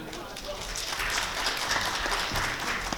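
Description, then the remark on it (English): A crowd claps steadily, a dense wash of many hands applauding at an even level throughout, sounding like a sizable audience. “Well, you apparently get applause now.”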